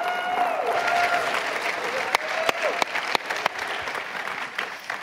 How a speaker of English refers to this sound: Would you give a round of applause to Mark Lutz?